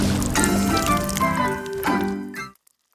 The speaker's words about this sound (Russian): Едва наклонился он за водой, как сметана из маслобойки полилась ему на голову, а потом в колодец.